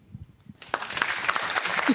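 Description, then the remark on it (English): A burst of applause played from a soundboard begins after a brief quiet moment, dense overlapping claps from a small group sustaining steadily to the end, moderately loud. “Is that a clap for you saying that?”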